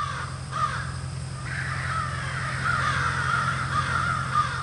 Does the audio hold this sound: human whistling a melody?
no